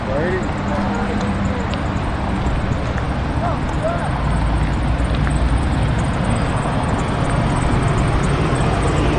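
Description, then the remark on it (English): A car engine idles with a steady, low rumble that holds throughout, with faint, indistinct voices in the background. “Who's leaving? Who started their car?”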